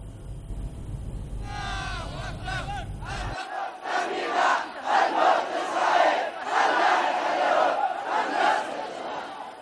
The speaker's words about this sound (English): Yemeni protesters have poured onto the streets of the northern city of Saada in yet another rally of support of war-ravaged Gaza.